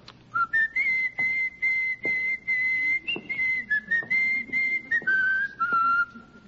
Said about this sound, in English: The whistling. Oh, just whistling. You know the tune, of course. Well, yes, I think it's the Marine hymn, isn't it?